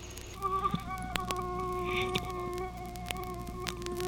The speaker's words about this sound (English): Just in case you wanted a record with the sound of a mosquito buzzing next to your pillow.